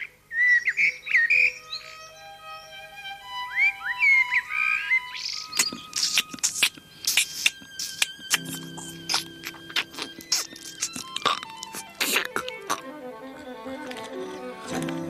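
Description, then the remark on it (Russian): Vocal imitations made with the lips and throat by actor Sergei Yursky: synthetic-sounding chirps and warbling whistles give way to a busy, irregular patter of sharp clicks and buzzy pulses, mimicking cicada, mantis and grasshopper calls; steady and fairly loud, with no talking. “Похоже, очень похоже на голоса насекомых, цикад, богомолов, кузнечиков, но только похоже. Звуки, которые вы сейчас слышите, рукотворные, точнее, губа, горлотворные.”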